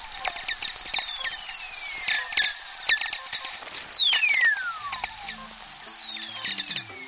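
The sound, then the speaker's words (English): Several lightning whistlers, radio tones from lightning bursts whose frequency components spread out over a long trip so higher frequencies arrive first: smooth, pure tones gliding steadily downward from very high to low pitch, overlapping one another above a constant crackle of sharp static clicks. “The higher audio frequencies arrive before the lower ones, so you get this downward falling tone.”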